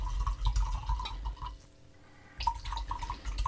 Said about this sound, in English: I hear that gluck, gluck, gluck, gluck. That's me pouring whiskey.